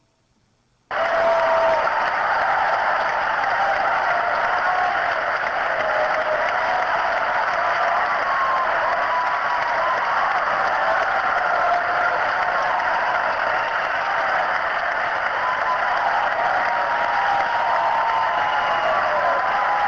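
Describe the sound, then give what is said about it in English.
A large crowd at Chapman University cheers and applauds loudly, bursting in after a brief silence and holding a dense, steady roar of clapping and shouting to the end. “It's a cheering crowd at Chapman University.”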